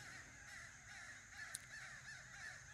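A flock of crows caws repeatedly as it flies overhead, their harsh calls overlapping in an uneven, faint chorus, with no one talking.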